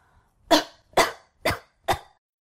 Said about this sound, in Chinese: 他已经咳嗽了一个月了。